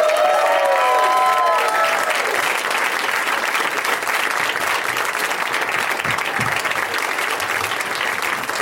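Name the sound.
audience applause and cheering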